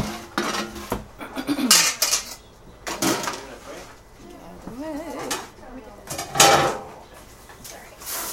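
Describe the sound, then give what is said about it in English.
Pots and pans clatter and clank repeatedly as boiled potatoes are strained, with bursts of metallic knocking and scraping and a few brief voices murmuring in the background. “We can just... strain those real quick.”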